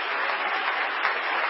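A crowd applauds together in a hand clap of praise to the Lord during a worship service, a steady, dense wash of many hands clapping at once, fairly loud and sustained without pause or voices on top.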